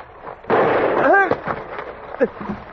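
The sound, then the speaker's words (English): A single loud gunshot, the bullet striking a man in the thigh, cracks out and leaves a long, noisy roar behind it. A man's voice cries out over the tail, and more short vocal outbursts follow. “The bullet had slammed into the fleshy part of my thigh and passed clear through.”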